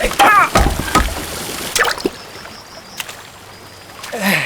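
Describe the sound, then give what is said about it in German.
A loud splash near the start as a man falls into a river after jumping out of a mill's paddle wheel, a brief cry over it, then steady rushing and gurgling water carrying on quietly. “Allerdings fällt er dabei in den Fluss.”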